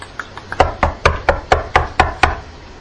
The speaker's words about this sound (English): Go up and knock on the door.